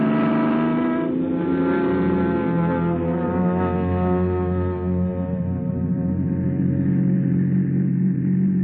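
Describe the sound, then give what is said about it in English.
A car engine drones steadily as the vehicle drives along, a loud, humming rumble with a strong tonal whine that holds for the whole stretch without pause. “Ah, vacation, here we come. Come on, car, let's go.”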